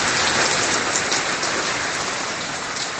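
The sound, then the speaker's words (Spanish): Heavy rain pours down in a dense, steady roar during a storm at midnight in Gijón, drumming loudly and continuously on hard surfaces, with no voices and no pauses throughout. “Estamos en alerta por lluvias y tormentas. Ayer a las 12 de la noche pasó esto en Gijón.”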